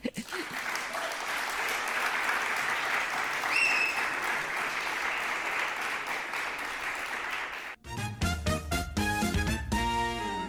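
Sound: audience clapping loudly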